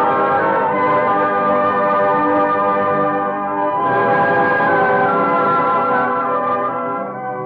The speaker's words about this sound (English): Oh, they're making signals from the belfry. The bell must be in place.